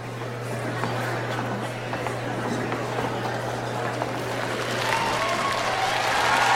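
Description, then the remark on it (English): A large concert audience applauds continuously at the start of a live unplugged recording, a dense wash of clapping with scattered cheers that swells slightly louder toward the end, over a steady low hum. “All right, just a point of information, we've never had a theme begin with applause.”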